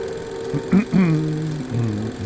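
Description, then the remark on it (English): A person clears their throat in two short, rough bursts, followed by a low voiced hum that trails off, with a steady hum running underneath. “I'm clearing my throat, in case you didn't hear that.”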